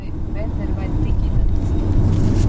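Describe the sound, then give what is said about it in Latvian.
Steady low rumble of a car with diplomatic plates moving along a road in Moldova toward Transnistria, heard from inside the vehicle, with a continuous engine and tire drone that swells slightly toward the end. “Tā kā automašīnā ir diplomātiskais numurs, mūs pārlaiž pāri visām robežām bez apstādināšanas.”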